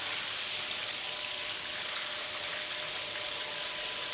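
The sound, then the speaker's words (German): Water is poured off freshly churned butter in a steady, hissing stream for several seconds, fairly loud, with no talking. “Okay, jetzt Wasser raus.”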